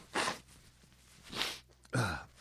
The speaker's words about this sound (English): I'll blow my nose. I'll be right.